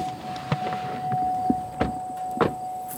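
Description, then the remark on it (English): Someone climbing into a pickup truck to go see goats at work: a few scattered thumps and clunks of a door and seat over a steady low hum, with rustling movement in between. Moderate level, no talking. “we hop into a pickup truck to see some goats at work.”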